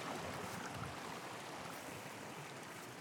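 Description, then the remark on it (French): Steady rushing of stream water fills the whole stretch, a dense continuous burble and hiss with no voices and no distinct splashes standing out, as people wade through a slippery stream with a stick. “D'ailleurs, il faut faire attention, hein, dans le ruisseau, ça glisse beaucoup là.”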